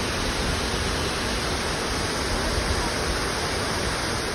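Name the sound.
waterfall roaring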